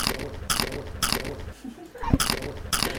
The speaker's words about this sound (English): We had one interviewee who was in the process of eating some really crunchy food, so we got some fun sound effects out of it.